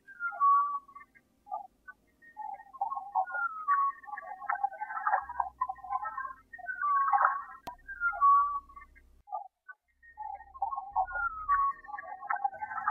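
A high-pitched humpback whale call, recorded from a boat at the mouth of a bay in rough seas: sliding whistles, squeals and warbling moans that repeat in phrases across the whole stretch, with a few low rumbling bursts of waves hitting the side of the boat beneath.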